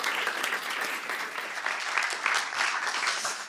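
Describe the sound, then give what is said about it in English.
A crowd applauds steadily to welcome speaker Persis Iskander before a talk on humanity's impact on wild animal suffering, a dense, continuous patter of many hands clapping at an even level throughout, with no voices standing out above it. “Round of applause for Persis.”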